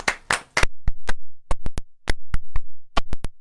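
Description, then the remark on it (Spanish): A small group applauds for footballer Luka Modric on a TV programme, sharp, loud handclaps arriving in an uneven, scattered rhythm rather than a dense roar, with a brief rustle at the start and no talking. “Un aplauso, por favor, para Luka Modric.”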